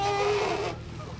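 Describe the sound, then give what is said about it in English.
A human voice imitates a whale call as a sound effect for Domino, a whale replica carried in a parade: a single drawn-out, wavering moan with a buzzy, bleating quality, lasting under a second before fading into faint background noise. “That was a whale.”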